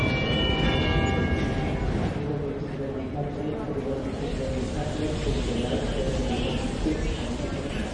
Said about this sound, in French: Là, je vois des trains, je crois. Je vois une gare, en tout cas, oui.